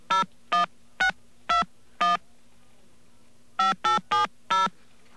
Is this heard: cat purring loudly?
no